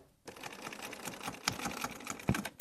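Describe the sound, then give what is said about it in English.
A sewing machine runs in a steady, rapid stitching rhythm, hemming jeans and putting gold stitching around the bottom of the jeans edge, with dense mechanical clatter and a few sharper clicks near the end. “That's Carrie Grace, busy on the sewing machine hemming clothes.”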